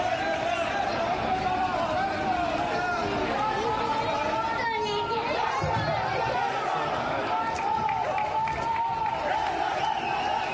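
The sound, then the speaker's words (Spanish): A crowd of protesters shouts war cries and chants on Avenida Ana de Villa, a steady roar of many raised voices with bursts of louder yelling and overlapping chatter throughout. “Gritos de guerra en la avenida Ana de Villa que nos trasladan a otros tiempos”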